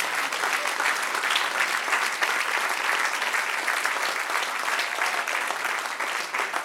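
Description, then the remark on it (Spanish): An audience breaks into sustained, steady applause, many hands clapping in a dense, even roar that holds at a constant loudness for several seconds. “Dale un aplauso al que rey.”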